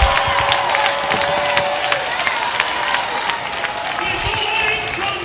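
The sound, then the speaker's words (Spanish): An audience of worshippers, answering a preacher's call to give God praise and a shout, erupts in loud, sustained cheering and shouting, with scattered whoops and clapping blending into a dense, steady roar that holds for several seconds. “Denle a Dios una alabanza y un grito.”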